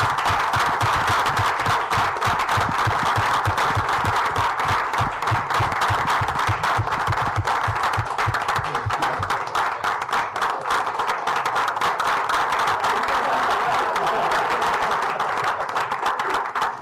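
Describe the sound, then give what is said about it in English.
Loud, sustained applause from an audience in Wrangell after a city proclamation congratulating young athletes: a dense wash of many hands clapping, with a steady rhythmic low thumping through the first half, continuing unbroken for about seventeen seconds with no talking. “We applaud you.”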